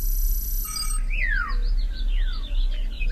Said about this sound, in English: Cuckoo.